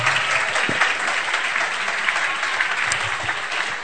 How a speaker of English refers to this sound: Are you clapping for him?